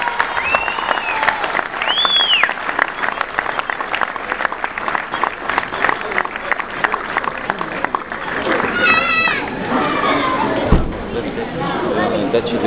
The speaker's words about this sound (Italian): un applauso forte